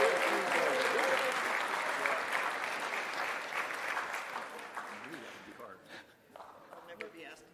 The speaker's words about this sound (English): Would you give all of our contestants a nice round of applause?